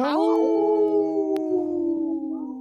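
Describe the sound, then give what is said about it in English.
On the Native Roots Radio show, a person off camera lets out one long, loud wolf-like howl, starting with a brief rising cry and then holding a steady, slowly falling tone for a couple of seconds. “got a howl in, too, off camera here.”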